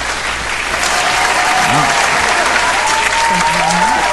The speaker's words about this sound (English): Yeah, maybe we gave you a round of applause, too. That's pretty nice. Right? You're getting some support there.